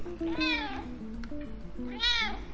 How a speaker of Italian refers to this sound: Anche il mio gatto ovviamente voleva salutare.